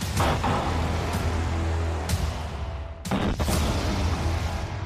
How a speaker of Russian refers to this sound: На мгновение кажется, что Т-90М бьет из огнемета, а не из пушки. Ну а дальше снова попадание в цель, столб искр из брони и осколки, летящие во все стороны.